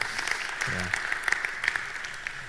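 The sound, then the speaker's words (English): A crowd applauds steadily to celebrate news of a new baby in a family, many hands clapping at once in a dense, crackling patter that holds an even level throughout, with a brief low voice murmuring partway through. “We can clap. We should clap for that.”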